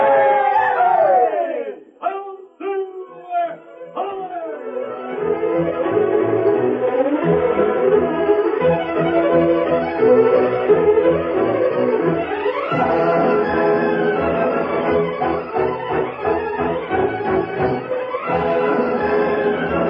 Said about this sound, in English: Lone Ranger and Tonto. Oh, yeah. They're the ones who saved us. We owe them everything. How about a cheer for the Lone Ranger?